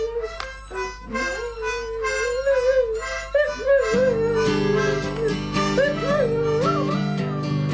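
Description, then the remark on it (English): A small dog howls along to music in long, wavering, pitch-sliding notes, fairly loud, with a sustained musical accompaniment joining in partway through as the howling continues. “little dog is 6 years old and he's smart as any damn kid”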